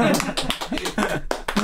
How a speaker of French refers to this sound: Ouais, on a notre trademark, les applaudissements. Voilà. Le self-applaudissement, ça, c'est nous autres. C'est ça, nous autres.